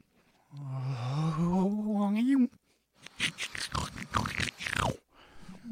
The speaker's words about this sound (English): Oh no. I made him snore in reverse. The sound is even worse. Gives me chills.